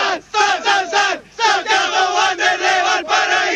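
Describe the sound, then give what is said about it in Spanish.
A small group of Wanderers football fans, the caturros, shouts their rhythmic team chant "SN! SN! SN!" together live for the radio, loud bursts of voices with brief pauses between phrases, repeated several times in a steady pattern. “Si ya se conocieron, cabros, ¿podemos hacer el grito de Wanders o no?”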